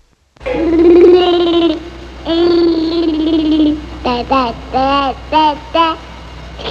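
A rock and roll song plays loudly, opening with two long sustained vocal-like notes followed by a string of short, bouncy, babbling syllables in rhythm.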